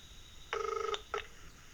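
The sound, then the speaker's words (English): A quick burst of telephone keypad tones as a phone automatically dials in and logs into a work voicemail system, a rapid run of beeps followed by one short tone, fairly clear against a quiet background with no talking. “So I'm going to double tap on audio mail and you can hear it log into my voicemail at Vision Australia.”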